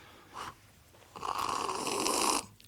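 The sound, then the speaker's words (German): A brief airy puff as a man blows on the coffee, then a long, loud, hissing slurp of too-hot coffee lasting over a second before cutting off. No one speaks. “Er schlürft. So muss man schlürfen, der ist zu heiß.”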